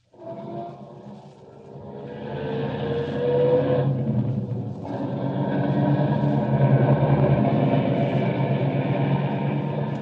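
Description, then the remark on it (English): A car engine turns over and catches, then settles into a steady low rumble that builds as the vehicle pulls away, with a brief shift in tone midway. “Start up the car.”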